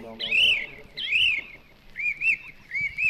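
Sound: birdsong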